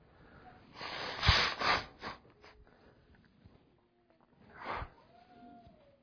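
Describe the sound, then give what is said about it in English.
Someone blows their nose: a long, loud, rasping honk, then a few small sniffs, and after a short pause a second, briefer blow. No one talks. “sorry, I need to blow my nose”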